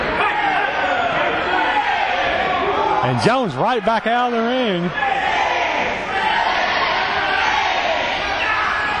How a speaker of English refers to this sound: Well, the crowd's counting. The unidentified ref is not counting.